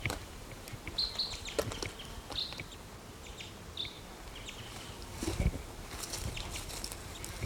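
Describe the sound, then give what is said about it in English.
A male crossbill, the mate of a female, calls in a tree with a few short, high-pitched chips, spaced irregularly over a low, steady background hiss with faint buzzing. No one speaks. “Now the mate of the female's calling in this tree.”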